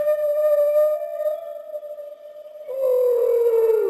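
A whale song: a long, steady moaning tone with rich harmonics that breaks and then slides lower, fairly loud with no voices present.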